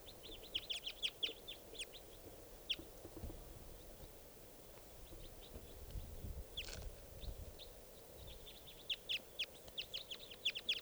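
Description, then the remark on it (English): A wild bird calls in quick bursts of sharp, high chirps, busiest at the start and again near the end, with scattered single notes between over a low rumbling background. “And it sounds like there's a wild type 4 bird here somewhere.”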